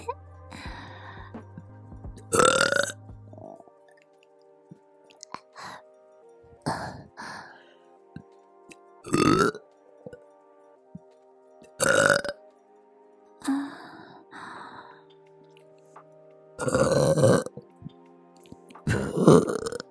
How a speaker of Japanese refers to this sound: それじゃ、ママのミルクゲップ、なんと召し上がれ。